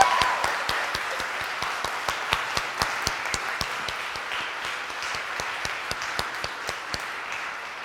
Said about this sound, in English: That is, other than asking you to join me in a big applause, because Larrey's second collection of poetry, Open Interval, has been nominated for the National Book Award. Woo!